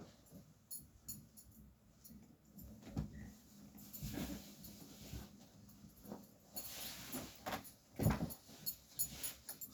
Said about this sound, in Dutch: door enkele minuten allebei de honden die alleen maar aan het blaffen zijn.